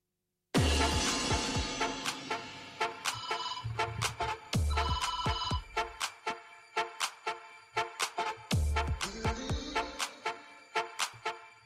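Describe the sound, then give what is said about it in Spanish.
A telephone rings in a home where someone is working remotely, with a bright, melodic ringtone, loud, playing quick repeated bursts of notes separated by short pauses, with no voices around it. “Pues es lo que pasa trabajando desde casa, que de vez en cuando pues suena también el teléfono.”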